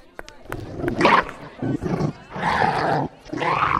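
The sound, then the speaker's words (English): A dog growls and snarls in a series of loud, rough bursts separated by brief pauses, with some faint clicks early on. “Look, woman, if your dog pulls the end of my oakum again, I'll have its guts for garters.”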